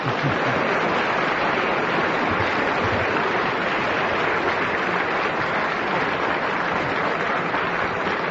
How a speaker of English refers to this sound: And what about a cheer for the man who never gets a clap? That wonderful man who chairs this show every week, Nicholas Parsons. Thank you very much indeed, and I must tell the listeners that even Clement Freud clapped then.